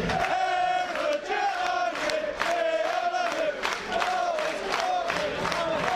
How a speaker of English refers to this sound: Harrier supporters are also joining in the minutes applause as well. Yeah, it's nice to see. We talked about that solidarity within clubs. All four sides of the ground applauding now. That is marvellous to see from a local perspective, isn't it?